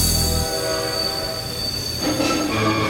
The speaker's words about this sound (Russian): на первый путь прибывает пассажирский вербенный поезд на Татарстан. Повторяю, на первый путь прибывает вербенный поезд на Татарстан.